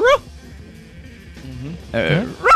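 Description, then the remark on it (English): A person imitates a dog barking, giving a few sharp, yelping barks with rising pitch, one at the start and a couple more near the end, with quieter vocal sounds between. “Hey, do you have any barks that you do, by the way?”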